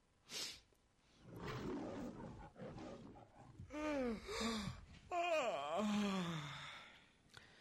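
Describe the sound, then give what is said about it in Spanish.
Loud, drawn-out yawns, one after another: each starts with a breathy intake and stretches into a long groaning tone that slides up and down in pitch. No one speaks. “A todas estas, pues o nos echamos un rosquete o bostezamos un poquito.”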